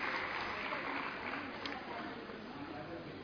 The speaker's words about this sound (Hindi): स्वागत की इस श्रृंखला में बच्चियों का स्वागत हो रहा है, जोरदार तालियां बजाएं इनके लिए, बहुत सुंदर नृत्य किया।